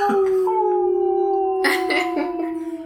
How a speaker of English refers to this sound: whenever you edit this, I'm going to need you to put in, like, a wolf howling, but silently.